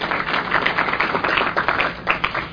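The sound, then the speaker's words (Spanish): A crowd at a Mexican Senate Special Commission on Climate Change event applauds steadily for a few seconds to welcome Senator Marta Palafox Gutiérrez, a dense, even patter of many hands clapping at once with no voices over it. “Un aplauso, por favor.”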